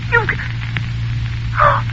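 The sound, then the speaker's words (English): An extension telephone receiver in a house is set down: a faint click, then a brief clattering clunk a moment later, all over a steady low electrical hum with no voices. “He's put down the extension phone.”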